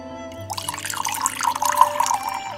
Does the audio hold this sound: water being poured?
yes